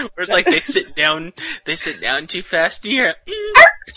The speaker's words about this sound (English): That was my dog.